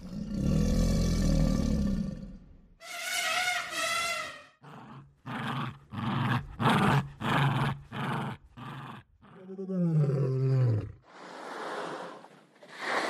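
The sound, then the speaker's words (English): A rapid-fire sequence of animal sounds, not from the original source, of a Jack Russell terrier growl, a lion, a whale blowhole and crocodiles: a low rumbling growl, a deep lion-like roar, a burst of rhythmic pulsing growls, a rising throaty bellow, and a rushing whale-like blast of air, all loud. “So the sound designer mentioned a baby elephant, a Jack Russell terrier growl, a lion, a whale blowhole, like crocodiles. and so here's not directly from the source, but here's kind of a rapid fire of those sounds.”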